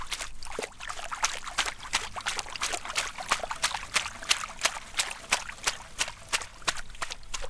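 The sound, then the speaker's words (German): Water sloshes and bubbles as aquarium plants are pressed down beneath the surface, with a steady run of quick, crisp pops repeating every fraction of a second. No one speaks. “Da drücken wir das hier so unter Wasser.”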